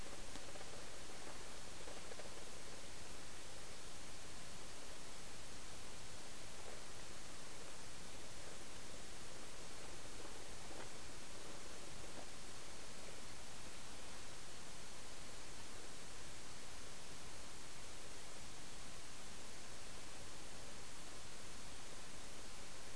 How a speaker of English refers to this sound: Water's getting louder, huh? Going over bigger rocks.